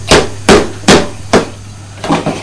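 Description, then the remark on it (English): A bottle of milk being banged against bricks like a hammer: four sharp, evenly spaced knocks about half a second apart, then a quicker, softer pair. The strikes are fairly loud, with no voices. “Well, could you pretend that bring a bottle of milk is a hammer? No. But very gently.”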